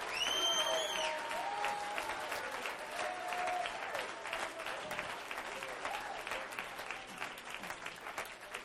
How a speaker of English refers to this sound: Come on, we ought to clap our hands and praise God.